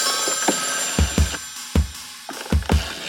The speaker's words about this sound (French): Ah, c'est moi qui ai oublié d'éteindre mon téléphone ou bien ? Ah, c'est peut-être dans le morceau en fait.